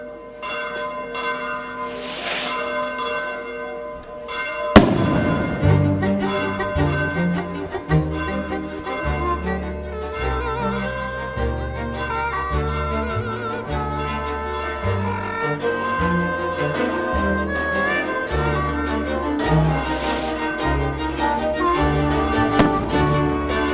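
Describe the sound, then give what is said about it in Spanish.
Church bells peal in a lively, festive call to the fiesta, a dense overlapping ring of several bells clanging rhythmically and loudly, with a sharp strike marking the start of the full peal. “Las campanas han marcado el ritmo de nuestros pueblos, pero es verdad que cada vez sube menos gente a tocar este rítmico instrumento musical a las torres de las iglesias de nuestro territorio.”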